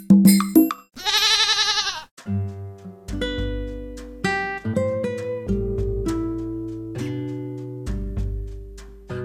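A loud, wavering goat bleat sounds once near the start, followed by a bright, bouncy musical jingle of struck tonal notes that fills the rest.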